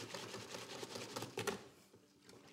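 Rapid, steady scraping clicks of a whisk mixing equal amounts of flour and water in a bowl while baking at home, continuous for a couple of seconds, fairly quiet, easing off near the end.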